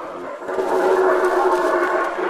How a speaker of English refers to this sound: Howler monkeys. Even if you don't see them at first, you are sure to hear them. With calls that carry 5 kilometres, they're the loudest land animals in the world.